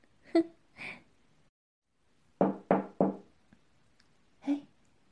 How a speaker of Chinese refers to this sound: 这时候门响了。应该是你到了，我赶紧过去给你开门。